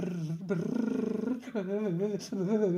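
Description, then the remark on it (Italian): A human voice imitates a bear, letting out a few drawn-out, wavering growls and roars, each rising and falling in pitch, with brief pauses between them. “È un orso!”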